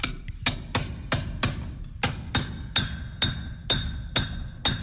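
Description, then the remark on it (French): A hammer strikes metal on a small, well-mounted anvil about ten times in a steady rhythm, using the flat nose of the hammer's peen. Each sharp blow leaves a bright ringing tone that grows clearer as the strikes continue. “Je travaille avec le nez du marteau, donc c'est la partie plate de la panne, ça donne ça.”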